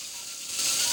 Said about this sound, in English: Seemingly fortified with new courage, Dan takes the drill again and continues with the procedure.